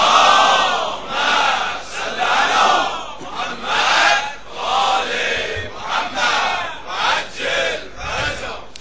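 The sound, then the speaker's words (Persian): A large crowd chants salawat, a religious salutation, together in unison on a Friday morning, voices rising and falling in loud, rhythmic swells over several seconds, with no single speaker standing out. “هدیه بیشگاه آقای امام زمان، جهت تعجیل در فرج آقامون، جهت شادی ارواح طیبه شهدا، حضرت روح الله، هم دوستان امیر المومنین، جهت سلامتی مقام معظم رهبری، صلوات درستاوی درست درمون صبح جمعه بفرستید.”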